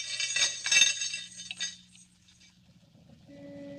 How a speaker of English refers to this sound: Handcuffs, eh? It's a good thing for you I wasn't feeling playful.